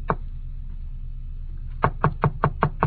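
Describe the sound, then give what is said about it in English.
Six quick knocks on the wooden door of apartment 1B, fairly loud in an even rhythm, after a moment of quiet room tone with one faint earlier tap. No one speaks. “I got to apartment 1B. I knocked.”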